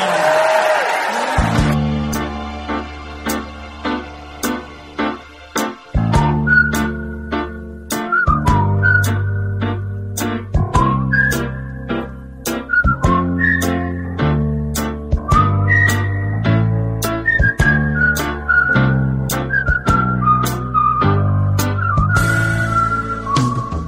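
A bright whistled melody carries a song tune over steady instrumental accompaniment with rhythmic chords, sounding like two whistlers performing together, clear and prominent with no talking.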